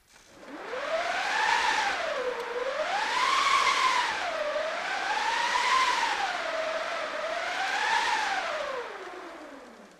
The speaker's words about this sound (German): Das ist eigentlich nur eine hohle Holztrommel mit einem Tuch, was einfach drüber gelegt ist und einer Kurbel an der Seite. Und wenn man an der Kurbel dreht, entsteht eben Reibung zwischen dem Tuch und dem Holz und das klingt dann wie der Wind.